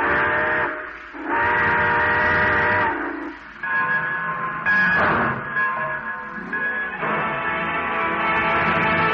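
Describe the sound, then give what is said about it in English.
A steam train whistle sounds in several long, loud blasts with brief breaks between them as the train departs, its harmonic tone backed by a steady rush of steam hiss. “All aboard. Well, dear folks, it looks as though we're ready to pull out.”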